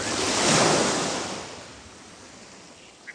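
A single ocean wave swells and washes in, its broad hiss peaking early then slowly receding into a soft, fading wash. No voices, just the gentle surf alone.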